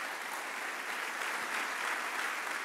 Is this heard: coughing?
no